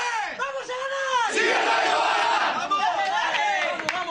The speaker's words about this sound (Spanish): Ese era el grito de guerra.